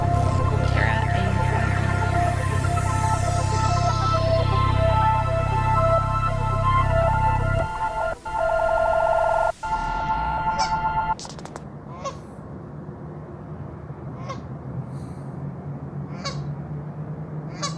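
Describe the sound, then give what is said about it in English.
Outdoor ambience in the Edmonton River Valley filled with loud, repeated honking of geese over a steady low rumble, thinning after a few seconds into scattered, fainter honks and calls against a quieter background. “The sounds you're listening to were recorded in the Edmonton River Valley.”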